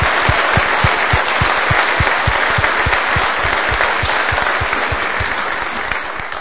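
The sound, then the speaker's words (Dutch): At a Christmas night church service, the audience claps steadily in sustained applause for a band, a dense, loud wash of many hands with a faintly rhythmic pulse running through it, continuing evenly throughout with no talking. “En met dat we applaudisseren voor jullie.”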